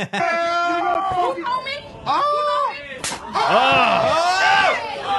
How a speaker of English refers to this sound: Such an amazing slap, dude. It's perfection. Yeah, he like towel whipped her in the face. It's perfection. It's a perfect slap. How loud that shit is. He like came from up top, too. It was like an overhand slap. Hit her with three fingers.